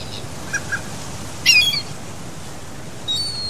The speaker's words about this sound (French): Elle est pas bien cette mouette, elle a failli nous rentrer dedans.